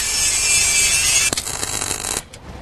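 A power grinder grinds the edges off metal before welding, with a loud, harsh, high whine. Partway through it shifts to a rougher, uneven grinding after a sharp knock, then winds down and stops.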